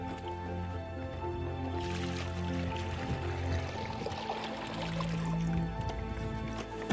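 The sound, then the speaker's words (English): Well water splashes and gurgles as a young girl pours it steadily into a bucket for her family, a continuous liquid sloshing lasting several seconds with faint background hum. “Go ahead and pour it in the bucket”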